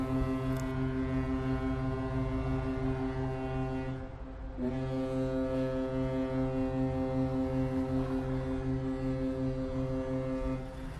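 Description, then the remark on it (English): A ship's horn on the Bosphorus strait in Istanbul, Turkey, sounds two deep, loud, long sustained blasts separated by a brief pause, its low droning tone rich with overtones and no voices present. “Large tankers, cargo ships, and passenger boats travel the straits that cut the city in half the entire day.”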